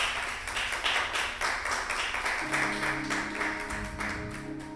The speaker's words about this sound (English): Come on, give God a great big hand clap.